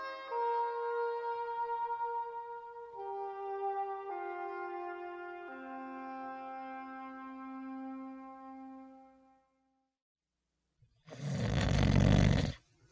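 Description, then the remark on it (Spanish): A gentle descending melody plays, falls silent, then a single loud, rasping snore bursts out as a sleeping man wakes, and cuts off abruptly. “se despertó con un enorme ronquido.”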